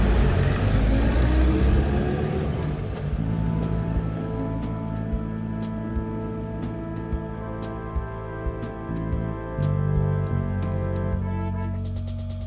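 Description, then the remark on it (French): A car engine hums and rumbles steadily from the inside as the car drives through Paris on a Saturday night, with a low drone and gear-like pitch shifts as it moves along, plus faint clicks and road noise; no one speaks. “Sorti du club, il rentre directement dans sa voiture et embraye directement vers l'adresse indiquée par l'atelier.”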